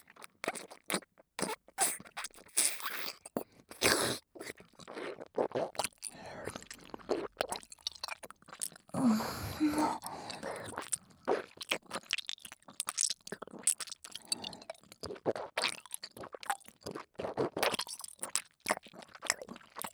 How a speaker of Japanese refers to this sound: このまま咀嚼に移りますので。 ではいただきます。